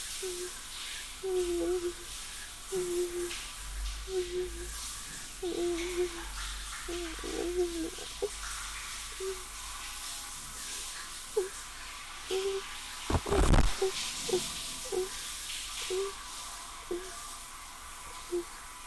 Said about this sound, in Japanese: シャワーがマイクに当たってすごい音とかしてくれるのに、耳がおかしくないのかなんだけど、シャワーに出口引っ張るのを工夫します。